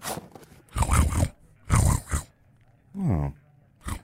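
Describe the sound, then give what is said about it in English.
A person imitates a tiger snoring: a few loud, raspy snorting breaths with short pauses between, then a throaty voiced growl and a brief final snort. “I snore like a tiger.”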